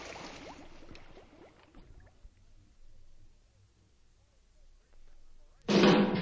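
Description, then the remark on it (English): Quiet bubbling and gurgling liquid murmurs along, then a blender motor suddenly roars to life near the end, loud and whirring with a harsh, grinding buzz. “Well, I think she's been under long enough. Let's give her the blender.”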